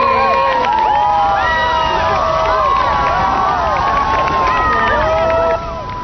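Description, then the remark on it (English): A large crowd cheers and shouts excitedly outdoors at an eruption of Grand geyser, people standing up and jumping up and down, many voices whooping and calling over one another in a sustained, loud roar of excitement that dips slightly near the end. “Sometimes you get just one huge series of bursts out of Grand, but just a couple days ago we got four bursts and people were standing up, jumping up and down, cheering.”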